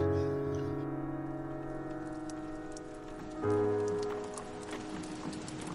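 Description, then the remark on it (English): Steady rain patters down in dense, irregular drops, beneath a sustained low musical drone that swells slightly partway through. “On the way to my hut, it started raining.”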